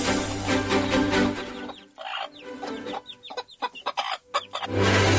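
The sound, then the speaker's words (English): Several chickens cluck and squawk in a busy, overlapping flurry, with short sharp calls bursting out in irregular bursts over a steady farmyard background noise. “You appear to have a poultry infestation.”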